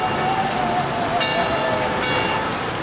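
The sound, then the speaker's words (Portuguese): An electric tram rolls along its rails with a steady, loud rumble, a thin metallic wheel squeal drifting over it and two brief clanks partway through. No voices. “Se você embarcar num bonde, tipo aqueles elétricos dos anos 50, aí você vai ver o que é demora.”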